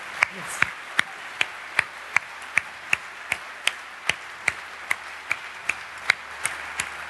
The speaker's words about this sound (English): A big applause for this group of volunteers that have brought us the camp. Big applause for the internet.